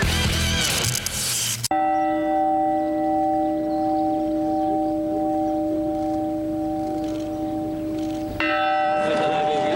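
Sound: church bells ringing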